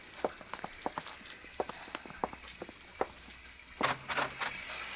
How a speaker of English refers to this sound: Still coming down. Oh, sure is. From now on, I know where I want to spend all my rainy nights.